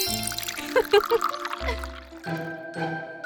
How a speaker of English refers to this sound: Care for a cup of tea? Pick me up by my handle and pour the tea into the cup. Whee!